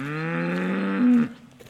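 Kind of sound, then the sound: animal, normande cow mooing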